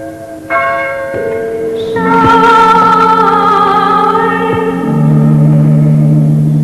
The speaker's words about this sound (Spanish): Su campana sonaba intermitentemente para guía de caminantes y peregrinos, perdidos en noches de invierno, entre fragosidades y ventiscas, o amenazados por fieros lobos.